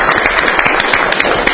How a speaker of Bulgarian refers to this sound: Аплодисменти наистина за всички участници за всички отборите в България.